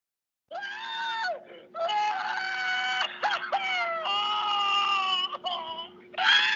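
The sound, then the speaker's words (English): Shrill, sustained screaming comes through a phone line in several long bursts separated by brief breaks, loud and strained, with a steady low hum running underneath; it is what is heard when calling the phone number shown in a scene of Fallout. “There's this one scene where they show a phone number, and you can actually call the phone number.”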